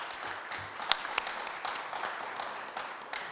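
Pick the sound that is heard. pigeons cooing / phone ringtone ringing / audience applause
audience applause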